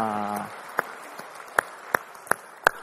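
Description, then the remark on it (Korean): A brief sustained tonal note fades out, followed by a handful of sharp, separate hand claps at a slow, uneven pace, rather than a full round of applause, given in a church service as applause of glory to the Lord after a praise song. “우리 찬양받으신 주님께 영광의 박수 올리겠습니다.”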